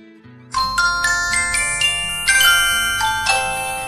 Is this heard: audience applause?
no